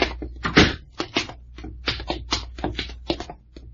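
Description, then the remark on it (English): A door is opened with a rapid series of sharp clicks and wooden thunks, like a latch and handle rattling before it swings, with no voices. “Open the door, Packard.”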